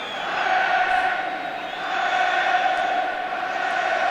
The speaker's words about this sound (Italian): E intanto cori d'amore dei tifosi spagnoli nei confronti del Milan, come potete sentire forse.